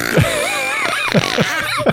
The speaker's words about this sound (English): I just looked down and saw how long the fart sounds on Spotify are.